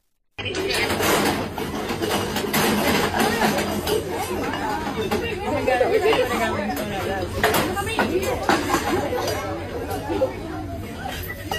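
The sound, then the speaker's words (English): A dense crowd rushing into a store, its excited chatter and babble filling the scene steadily, many voices overlapping with scattered shouts and shuffling, sustained at a loud level throughout without a break. “Let's watch a little video of the crowd rushing.”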